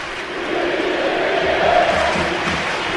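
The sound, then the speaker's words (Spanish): A large football crowd in the stands of the Calderón stadium chants "Luis Enrique" in unison during a Copa del Rey final, a dense, steady roar of many voices with a rhythmic sung phrase rising out of it midway, holding loud throughout without any single speaker. “Luis Enrique, Luis Enrique, en la grada del Calderón. A ver, lo oímos.”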